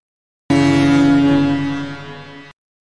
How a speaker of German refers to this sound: Ja, das ist eine Hupe, eine Schiffshupe.